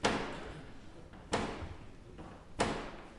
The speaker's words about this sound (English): And so the Black Rod itself is actually a staff. And it's a sort of ebony staff topped with like a golden lion. And so it basically, Black Rod bangs on the door with the staff. So the Usher of Black Rod bangs on the door with Black Rod, the staff.